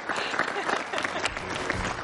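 A crowd applauds steadily, a dense wash of many hands clapping at an even, fairly loud level throughout, with a faint murmur of voices underneath.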